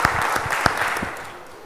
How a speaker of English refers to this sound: Did they get it? Yeah, round of applause. Well done. Well done.